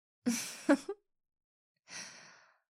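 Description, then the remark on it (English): Two heavy breaths separated by a pause: first a voiced, sighing gasp with short catches, then a long, airy, breathy exhale. No talking. “Hey, you're breathing kind of heavy.”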